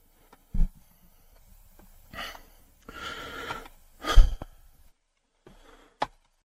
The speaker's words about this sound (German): Spürt ihr auch diese Selbstbeherrschung, dieses Schnaufen, dieses Seufzen, das Gesicht, die Augen, der Mund wird immer kleiner, diese Selbstbeherrschung, großartig.